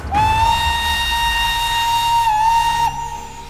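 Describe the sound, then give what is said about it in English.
A steam train whistle blows one long, steady high-pitched note with bright overtones as the train pulls up to King's Cross Station, holding for nearly three seconds before cutting off, over a low rumbling of the train beneath. “I awoke with a start to find my train pulling up to King's Cross Station.”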